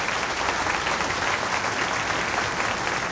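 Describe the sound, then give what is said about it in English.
An audience applauds steadily for the band at an outdoor afternoon performance, a dense, even wash of clapping hands that holds at a constant loud level for a few seconds without any voices. “You know, it's very difficult to work outdoors, and I think our fine band this afternoon deserves a round of applause because they're doing such an outstanding job.”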